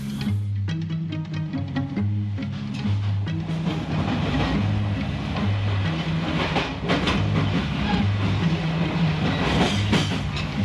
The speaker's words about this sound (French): voilà quelques minutes que nous sommes partis. Notre train dépasse à une vitesse modérée les gares de la banlieue parisienne.